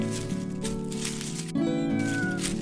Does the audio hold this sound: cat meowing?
yes